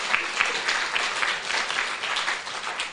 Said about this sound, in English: Come, yeah, that's worth a clap. That's exciting.